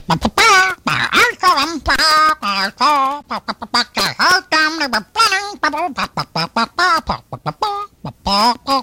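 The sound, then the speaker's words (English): A voice does the squawking Rockin' Rooster character, loud, with rapid, choppy bursts of honking, bird-like syllables that rise and fall in pitch without stopping for several seconds. “Well, I tell you, it's Rockin' Rooster there.”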